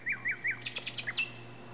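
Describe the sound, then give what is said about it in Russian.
A nightingale, a small grey bird among the branches, sings a quick run of bright, high chirps: three rising-falling notes followed by a rapid flurry of sharp trills, clear over a low steady hum, with no talking. “«С величайшим удовольствием!» — отвечал соловей и запел так, что любо-дорого было слушать.”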